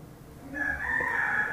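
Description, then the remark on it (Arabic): A rooster crows once, a loud sustained call that starts about halfway through and holds a bright, strained tone to the end, with faint background hiss and no talking. “قال رسول الله صلى الله عليه وسلم لا تسب الديك ديقها عيننا فإنه يوقظ للصلاة”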